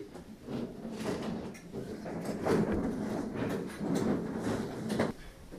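Chairs being set out from the back and moved forward across a floor, a steady run of scraping, sliding and knocking sounds, with no one talking.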